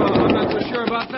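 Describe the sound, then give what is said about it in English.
A man speaks a short line while several sharp gunshots, fired at a stagecoach, crack in the background, irregularly spaced and partly masked by his voice. “Bill, somebody's shooting at that stage.”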